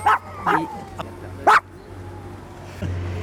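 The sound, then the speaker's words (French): A small dog gives three sharp, high-pitched yaps, followed by a brief whimper, over a low steady hum of background noise. “Puis je sors mon petit chien, alors voilà.”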